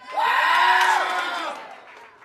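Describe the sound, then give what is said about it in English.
A crowd cheers and screams together for kittens, in a kittens-or-puppies vote, in a loud burst, high voices rising into a sustained shout before trailing off into scattered calls. “Okay, so let's hear it for kittens.”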